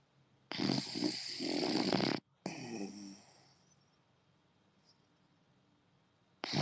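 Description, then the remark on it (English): A sleeping dog, Beppy, snores next to a phone, two long, rough breathy snorts, one after the other, then a quiet stretch before another snore begins at the end. “I'm gonna put the phone next to him because he's snoring.”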